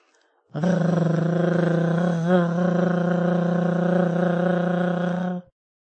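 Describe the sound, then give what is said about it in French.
A single voice holds a loud, steady rolled R on the musical note B for about five seconds at a fairly high pitch, buzzing like a child imitating a toy car engine, with a slight wobble midway. “Ensuite, nous vocalisons le R avec le si musical, c'est-à-dire plus aigu que le E, en imitant les enfants lorsqu'ils jouent avec leur petite voiture.”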